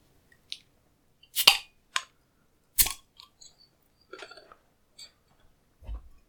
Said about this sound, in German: Und ich werde das jetzt öffnen und mal einschenken.